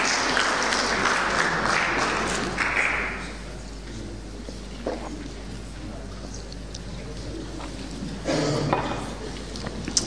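A crowd applauds for about ten seconds, a dense crackle of many hands that is loudest at the start, eases off in the middle, then swells briefly again near the end.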